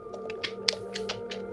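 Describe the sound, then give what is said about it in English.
A quick string of about seven sharp mouth clicks made as a tic, irregularly spaced, over a steady low background hum with no talking. “but can you make the click sound? Like, is this a sound you make or what? Yeah, it's a sound.”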